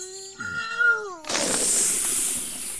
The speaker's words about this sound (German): Schnell öffnete der Geist die Flasche. Der Korken knallte in die Luft und der kleine Geist zischte heraus.